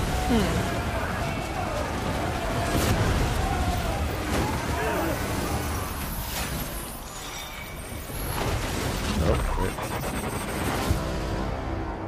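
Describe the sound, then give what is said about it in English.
A loud, dense cinematic trailer-style effect: a sustained roaring, crackling wash punctuated by a few heavy, sharp hits, with a murmur of indistinct voices mixed underneath. “Every preview has that sound in it nowadays.”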